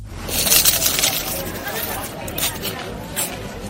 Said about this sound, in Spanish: Eso es, así es como suena un torrezno cuando lo introduces en la boca y le das un mordisco. Pero te habrás dado cuenta también de que así, de esta forma, no cruje cualquier torrezno. Sí lo hace el de Soria, está amparado por la marca de garantía